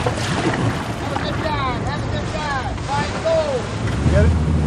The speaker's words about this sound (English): We launch a small dive boat from the Farrell